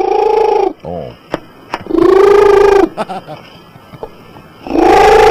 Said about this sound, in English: The world's loudest purring cat. Oh, cool. I love this. Who, if mic closed, will purr between 80 and 92 decibels, the same rate of noise as a hairdryer.